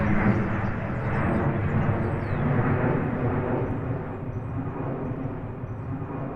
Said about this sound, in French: Mais c'est vrai que quand on est à l'extérieur, qu'on profite du jardin, notamment l'été, ben on peut être obligé d'arrêter la conversation, parce que quand il y a un avion qui passe, des fois c'est tellement fort en fait.